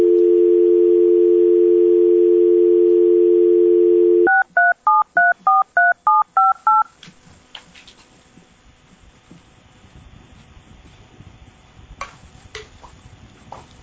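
A steady telephone dial tone hums for several seconds, then seven quick, evenly spaced keypad beeps ring out as a number is dialed, followed by faint line noise and a few soft clicks; the call cannot be completed.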